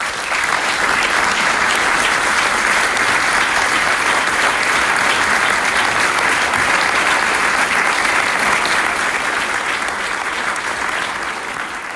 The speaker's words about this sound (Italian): Ecco, questo è solo un pezzetto dell'applauso che ha seguito l'intervento di André Ruth Chammat, di cui avete già ascoltato forse ieri alcuni estratti, oggi lo abbiamo mandato per intero.